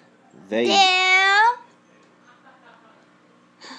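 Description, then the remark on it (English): A single loud, drawn-out cat meow lasting about a second with a rising then falling pitch, followed by quiet background noise and a faint rustle at the end. “My cats here also”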